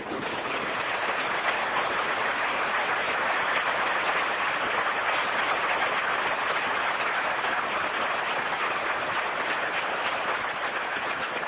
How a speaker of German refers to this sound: Und um dies jetzt nochmal zu bekräftigen, als gutes Omen, wenn man so will, bitte ich Sie nochmal kurz Ihre Daumen zu entspannen und einen richtig donnernden Applaus unter das Glashallendach zu senden. Bitte jetzt!